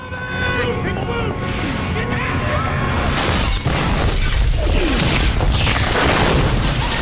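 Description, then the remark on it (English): A massive explosion as a rocket fired from a shoulder-mounted launcher hits a suite. The blast is loud and sustained, a roaring explosion followed by crashing and shattering debris for several seconds. “A massive explosion rips through the suite.”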